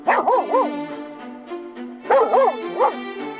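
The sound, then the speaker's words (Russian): A small dog barks in two quick bursts of high, yappy barks separated by a brief pause, fairly loud, with short whiny tails between yaps. “Ой, у них тоже собачка. Только не такая злющая, как у эсэсовцев.”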